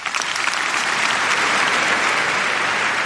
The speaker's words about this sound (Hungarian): Pater Lombardi felkérése után Leó pápa átadta Riccardo Muti karmesternek a Ratzinger díj diplomáját, amelyet a 6. Palaulát megtöltő mintegy 5000 részvevő hangos tapsra jutalmazott.